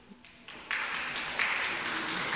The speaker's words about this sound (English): Some of you are not clapping. I'm clapping, and I'll continue to explain why.